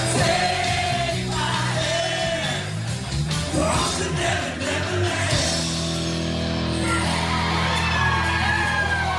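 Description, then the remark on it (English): A dense crowd at a packed live gig sings along and cheers loudly throughout, with yells and whoops rising over a steady, full wall of voices and music. “Hear the crowd?”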